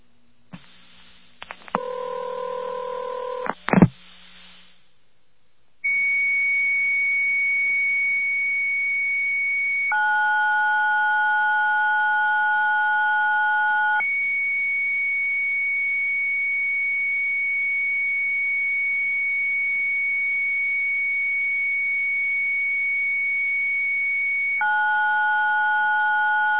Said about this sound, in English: Okay, that was a computer modem, a slow-speed computer modem.